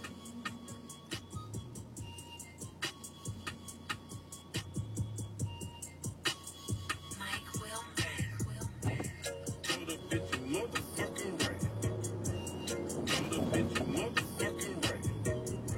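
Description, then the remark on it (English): A cable car carrying about four people rumbles past with a steady mechanical hum, clattering clicks and a rising whine, growing louder toward the end amid busy street noise. “That's a cable car.”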